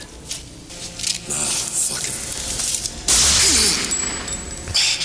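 gunshot

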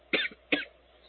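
coughing

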